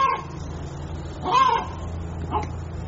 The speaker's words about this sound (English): Ladies and gentlemen, I got a chicken over here that is about to drive me nuts.